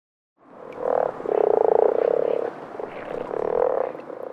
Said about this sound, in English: They're frogs.